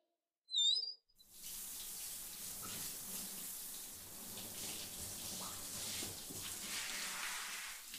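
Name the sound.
shower water running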